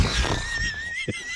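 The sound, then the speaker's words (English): A single weak, tired-sounding horse whinny, thin and drawn out with a slight waver, fading near the end, with a brief low thump and no talking. “That's just like a lazy horse.”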